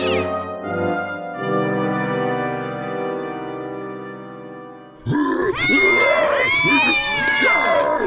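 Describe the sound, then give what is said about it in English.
A steady droning tone holds for several seconds, then a loud chorus of many cats, alley cats and domestic cats led by Mr. Fluff Nugget, bursts in, meowing and yowling over one another until the end. “Have you ever seen so many cats? Alley cats, domestic cats.”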